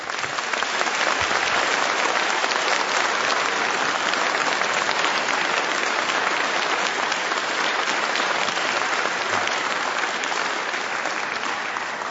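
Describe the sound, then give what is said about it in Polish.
An audience of Radio Maryja listeners in a church in Minstern claps steadily for about twelve seconds for the parish priest, Father Marian Wagner, a dense, even roar of many hands with no voices breaking through. “Chcąc ucieszyć się i podziękować obecnością każdego z was w tej świątyni w Minstern oraz obecnością każdego słuchacza Radia Maryja, olbrzymie, gorące brawa należą się niemalże gospodarzowi tego miejsca, księdzu proboszczowi Marianowi Wagnerowi.”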